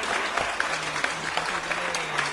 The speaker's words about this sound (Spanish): ¡Aplausos, malito! ¡Ah, este güey sí se discute, muchachos! ¡La neta, el chile! ¡Aplausos, malito!